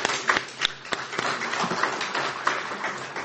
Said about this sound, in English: Amen. Amen. Yes, you can applaud.